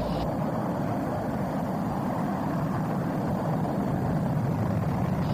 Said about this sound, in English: 12, 11, 10, 9. Ignition sequence starts. 6, 5, 4, 3, 2, 1, 0. All engine running.